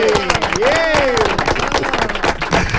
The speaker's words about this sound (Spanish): muchas gracias por los aplausos